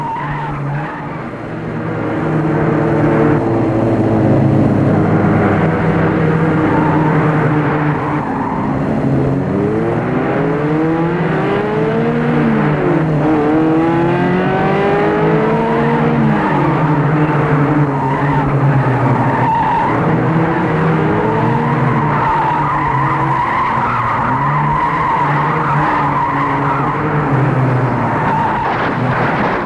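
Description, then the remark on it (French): A car engine revs loudly while tires squeal and skid on a road made slippery by rain, the pitch sweeping up and down in repeated arcs as the car slides around for about half a minute. “Deux heures plus tard, il a pris sa voiture. La route est glissante, il a plu.”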